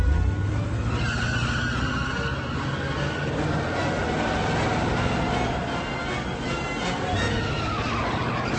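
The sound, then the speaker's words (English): A Buick accelerates hard with tires squealing, a loud, continuous screech over roaring engine noise that holds steady for several seconds, with no voices. “Hey, what are you queens doing in our car? Step on it!”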